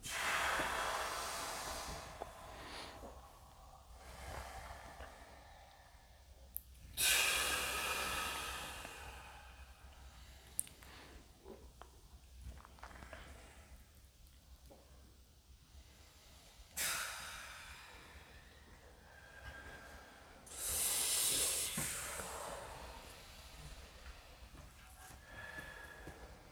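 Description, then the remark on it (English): Forceful breathing from a breathwork exercise, loud rushing inhales and exhales recurring irregularly, about six strong bursts with quieter breaths between, with no talking. “And when you finish your round, you can start breathing again, your own pace.”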